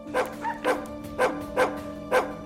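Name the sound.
dogs barking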